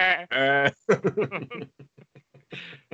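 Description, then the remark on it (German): A person imitates a goat's bleat with two long, wavering nasal calls, followed by a stretch of rapid, choppy vocal sounds and another brief bleat-like cry near the end. “Nee, dann mache ich immer so eine Ziege, so bäh.”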